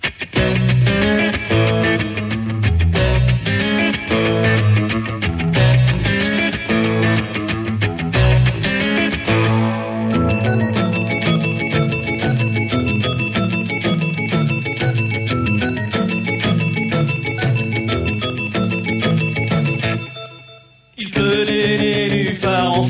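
A loud French rock song driven by thick, distorted electric guitar and a steady beat, playing continuously without vocals before briefly cutting out and crashing back in near the end.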